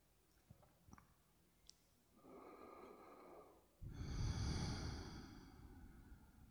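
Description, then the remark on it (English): A slow, deep breath: a soft, airy inhale lasting over a second, then a longer, louder, rushing exhale, with a few faint clicks before it and no talking. “Let's take a few breaths here, just feeling, listening, breathing.”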